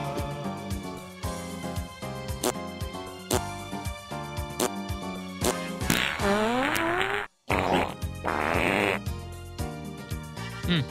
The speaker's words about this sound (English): Would you like to know that I let out a real fart right as he was playing all the other farts? Just to kind all of the like fake farts? Like a harmony, yeah, sort of thing?